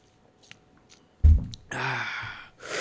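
Someone drinks water: a soft low thump, then a loud breathy, satisfied exhale after swallowing, followed by another burst of breath. No talking.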